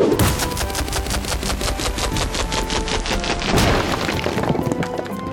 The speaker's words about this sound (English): Your opponent throws a rock.